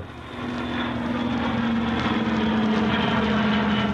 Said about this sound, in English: And when the plane touched down at Shannon on the way out, Arthur Quinlan met some of the distinguished passengers.